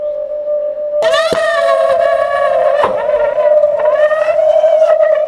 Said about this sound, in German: Und mit einem Affenzahn zischt die Kapsel weg und geht jetzt über die Zentralstation hoch zur Nummer 4, zur Garderobe.